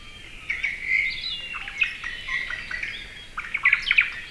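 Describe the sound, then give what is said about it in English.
A small white-eye, about 4 inches, sings a rapid, continuous stream of high, thin twittering notes, clear, with brighter chirps near the end and no voices. “White eyes are known as generalists.”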